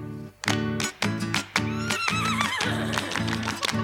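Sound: horse neighing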